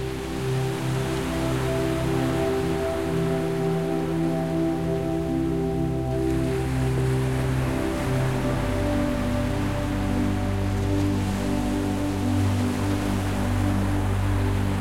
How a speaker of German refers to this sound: Du lässt deine Augen zufallen und hörst dem Rauschen des Meeres zu.